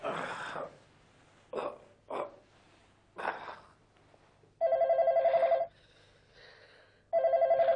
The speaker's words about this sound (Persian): یکیتون اون تلفن رو برداریم بابا جا. آخه بابا بچه چرا پس تلفن رو بر نمیدارین عزیزم؟